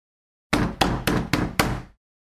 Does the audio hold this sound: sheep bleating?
no